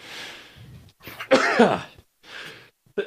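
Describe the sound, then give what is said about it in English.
A single morning sneeze: a breathy intake builds into a sharp, voiced burst, followed by a softer exhaled breath. No one speaks. “Oh, there's the sneeze for the morning.”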